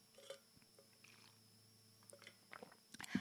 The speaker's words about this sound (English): Going to take a little sip of water here.